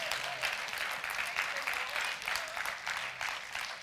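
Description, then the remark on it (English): A crowd claps steadily and enthusiastically in praise of the Lord, a dense, continuous wash of many hands applauding together with faint voices mixed in, sustained throughout at a moderate level. “Give the Lord a hand clap today.”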